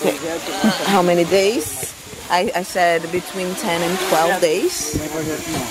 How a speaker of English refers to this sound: No, that sound you hear is not a swarm of bees. It's a drone.